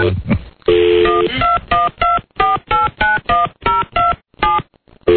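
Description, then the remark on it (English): A rapid series of touch-tone telephone beeps as a number is dialed, about a dozen short dual-tone presses in quick succession, clear, following a brief tone at the start. “All right, now on the off chance that I misdialed...”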